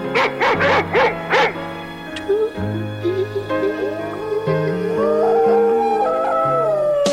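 Several dogs howl and yip along to a song in a 10-second radio soundbite, wavering, rising and falling cries, a burst of short howls first, then longer drawn-out ones blending with the song playing underneath.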